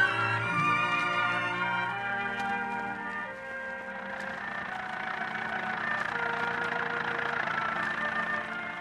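An old rattle-trap car belonging to trainer Johnny Stark approaches Menifee Park, a small Midwestern racetrack, at sunup on a crisp morning; its engine runs steadily with a low rumbling drone and loose, rattling clatter, holding a continuous moderate loudness throughout with no talking.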